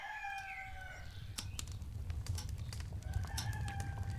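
A rooster crows twice in the morning at a cottage, one call at the start and another near the end, with wings flapping and clucking in between over a low rural background hum.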